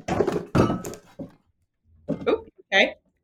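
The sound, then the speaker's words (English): Several heavy thunks and a clattering crash as a cat dives into a computer, a loud burst of impacts followed by a pause and two shorter knocks. “My cat just did a full-on full-on Superman dive into the computer.”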